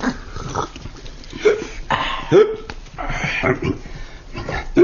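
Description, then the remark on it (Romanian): A voice imitates hiccups: a handful of short, sharp, yelping catches in the throat at irregular intervals, with breathy vocal noises in between. “Nu știam că sughiți, zice prefectul.”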